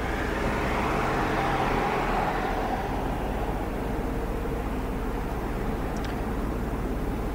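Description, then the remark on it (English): A steady wash of road noise from passing cars on a town street at sunset with few people around, a broad continuous rumble that swells slightly early on, with no voices and no other distinct sounds standing out. “Streets are empty of people. There's cars, but not very many people around.”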